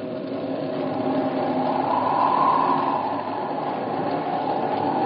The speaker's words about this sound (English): The rails are humming. Here, put your ear down here. Train. Wind's behind us. Can't tell how close it is.